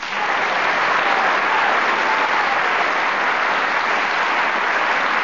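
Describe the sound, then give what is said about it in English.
Sustained applause from an audience for the teams at the end of the series, a dense, steady wash of clapping that holds at an even, loud level for about five seconds with no voices over it. “So, for the end of this series, would you all give a big round of applause for the teams?”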